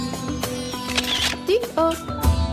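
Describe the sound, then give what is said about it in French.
Crisp camera shutter clicks fire repeatedly at an uneven pace, fairly loud, over a layer of steady tones and hum. “déclencheur”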